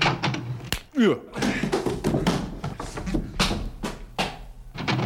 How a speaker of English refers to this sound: Well, now I usually place my shoulder against the door thusly and announce myself.